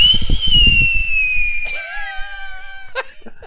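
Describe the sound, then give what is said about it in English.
A voice imitates an air raid siren, holding a high, wailing tone that slowly glides downward, then drops into lower rising and falling harmonics, with a short burst of breathy noise near the end. “That's me doing the siren, by the way.”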